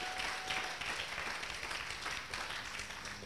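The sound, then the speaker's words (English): An audience claps together, a dense, steady wash of many hands that stays fairly loud and unbroken from start to finish, with no one speaking over it. “You are not clapping to this one.”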